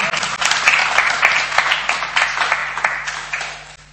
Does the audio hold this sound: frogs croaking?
no